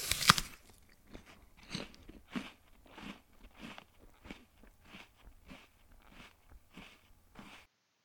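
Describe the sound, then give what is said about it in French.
A crisp bite into an apple followed by steady, rhythmic crunchy chewing, a dozen or so wet crunches, with no talking. “Je prends une pomme et je croque dedans.”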